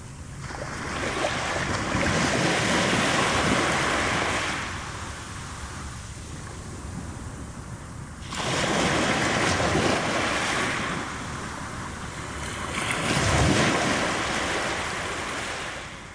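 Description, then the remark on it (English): Waves wash in and splash softly onto a long stretch of shingle beach in slow, repeating surges, each swelling and receding with a broad hiss, with no voices. “Waves softly splashing onto the long stretch of shingle.”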